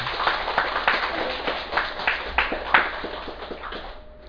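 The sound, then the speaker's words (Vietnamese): A crowd claps steadily for several seconds, the dense patter of many hands mixed with a few sharper individual claps, fading out at the end. “Cho nên mình cũng vỗ cho một tràng pháo tay.”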